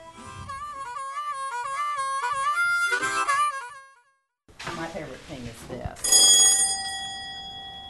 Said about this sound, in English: Isn't that wonderful? I would love to have this on my front door. It's my doorbell.